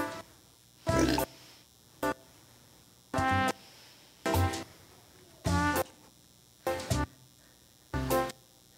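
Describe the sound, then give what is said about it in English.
A pig in a box grunts and squeals in about eight short, loud bursts at irregular intervals, with quiet pauses between them and no talking. “What he does is they put a fresh, real cute pig in a box, and he pretends to grind it up to make sausage.”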